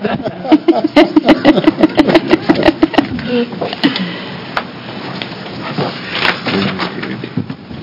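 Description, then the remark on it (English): A chair scrapes and bumps across a hard floor at a committee hearing in a series of loud, rough drags and knocks, with brief murmuring voices around it. “They don't make these chairs slide to me.”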